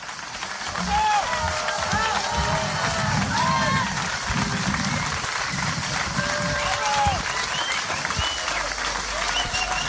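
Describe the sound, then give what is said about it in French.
Sustained, loud applause from a large outdoor crowd at a summer festival in Ardèche, for a show by the juggling company POC, fills the whole stretch, with cicadas chirping steadily in the background over the clapping. “Des applaudissements, mais aussi des cigales, c'est tout le charme des festivals d'été.”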